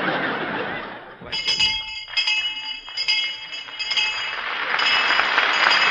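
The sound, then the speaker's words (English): A bright, ringing bell strikes about five times in a steady rhythm, its shimmering tones lingering between hits, while an audience laughs and chuckles underneath and swells again at the end. “Well, there's the bell, kid.”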